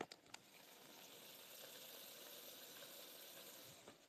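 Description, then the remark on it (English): A steady bubbling hiss of liquid boiling in a pot, with a few brief clicks near the start and end and no voices. “I guess it's not a sizzle, it's just boiling.”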